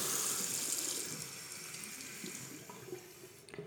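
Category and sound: household object, water running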